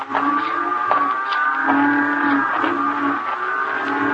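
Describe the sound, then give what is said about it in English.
Cattle low steadily, with several drawn-out moos overlapping into a continuous, fairly loud bellowing chorus from a herd of about 30 head of cattle at loading pens. No one speaks. “Those XL cattle you're buying? Only 30 head, Marshal.”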